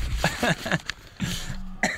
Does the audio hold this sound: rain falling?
no